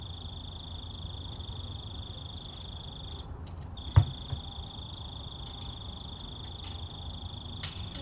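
A single lone cricket right near the microphones trills steadily at a high pitch over low background rumble, falls silent for a moment, then resumes right after a sharp knock as someone outside takes out the recycling, and keeps chirping to the end.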